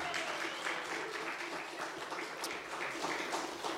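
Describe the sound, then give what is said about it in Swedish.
A church audience in Sweden breaks into steady, dense applause for Jesus Christ, many hands clapping at once in a continuous wash of sound that holds at an even, fairly loud level throughout, with no voices standing out. “Kan du ge en stor applåd för Jesus Kristus?”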